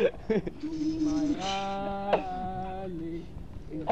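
A few drawn-out, wavering sheep bleats sound fairly loud, one long quavering cry in the middle with shorter bleats around it, with some background noise.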